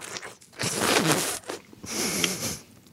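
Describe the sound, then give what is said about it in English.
Wet, hissy slurping of juicy fruit flesh in two drawn-out bursts, each about a second long, with soft smacking and sucking noises between them and no talking. “Okay, now I'm going to do some slurping.”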